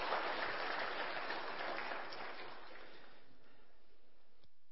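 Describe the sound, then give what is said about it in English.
A church crowd claps a round of applause to honor and thank people, a dense, steady patter that gradually thins and fades out over a few seconds, leaving near silence with no voices. “How about we honor them with a round of applause, just tell them how much we thank them.”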